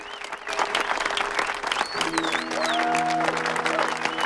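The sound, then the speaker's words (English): A huge gathered crowd at Speed Week on the Salt Flats claps steadily for several seconds, the dense patter swelling slightly after the first moment, with sharp whistles and sustained cheering tones woven through the applause. “A huge crowd has gathered”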